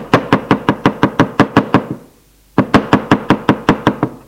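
Rapid, steady knocking on the door of a chalet: a run of about ten sharp raps, a pause of under a second, then another burst of similar loud knocks in an even rhythm, with no voices.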